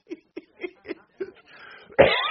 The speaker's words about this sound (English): Sorry, I'm coughing.